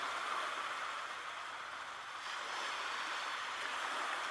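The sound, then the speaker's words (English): Steady ocean waves wash in a continuous soft hiss with a gentle swell, moderately quiet, with no voices. “Follow the waves.”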